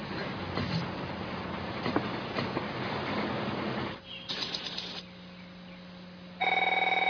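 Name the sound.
subway train running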